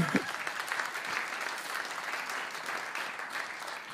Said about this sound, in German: Jetzt dürft ihr klatschen. Ja.